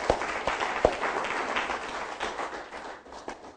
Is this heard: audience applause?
yes